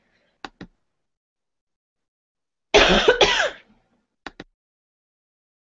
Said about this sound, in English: Excuse me one second. I'm going to cough.